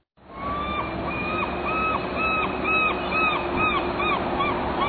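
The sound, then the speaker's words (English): Seagulls flying overhead call over and over in a steady run of loud, harsh cries, one after another for several seconds, above a constant low rumble of city background noise, on an overcast day in downtown Seattle. “Seagulls are flying overhead on this overcast day in downtown Seattle”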